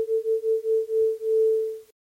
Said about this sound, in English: That is two sine waves being varied in pitch and also panned around the stereo field.